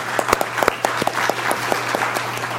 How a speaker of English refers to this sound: And I want to give them a round of applause for that.